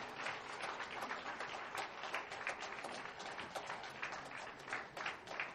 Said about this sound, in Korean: 네, 아직도 박수 소리가 끊이지 않고 있는데요.